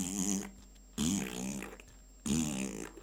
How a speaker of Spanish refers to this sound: Pero había una en especial que se pisaba, o sea, doblaba la punta de la trompa y la pisaba ligeramente con una de sus patas y hacía una trompetilla.